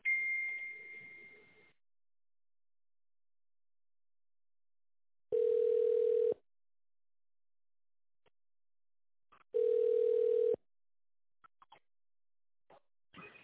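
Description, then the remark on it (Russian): A telephone ringback tone while a call to the managers of the company RobotBuzz connects: a brief higher electronic tone, then two steady one-second buzzy tones separated by long silent gaps, clear. “Звонок уже идет нашим менеджерам. Ожидайте, пожалуйста.”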